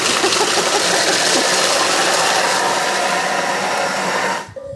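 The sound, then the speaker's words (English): A kitchen blender mixing crust ingredients while heating them to 160 degrees roars at high speed for about 5 seconds, a loud, steady whirring motor noise that holds before cutting off abruptly near the end. “it's telling me it's going to take 5 seconds and it's going to heat it up to 160 degrees for 5 seconds and go really fast. So this is going to be noisy.”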